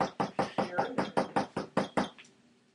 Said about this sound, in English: Hello. I'm knocking on the door of the candle place. You don't hear. No one says anything.